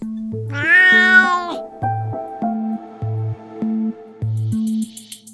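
A single drawn-out, loud cat meow, rising then falling, plays over a steady pulsing electronic tone pattern that continues after the meow ends, with faint high chirps at the very end.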